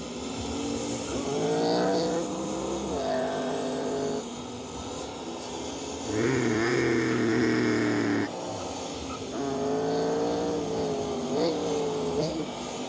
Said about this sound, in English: pace car is rolling off. Pace car is off of the grid.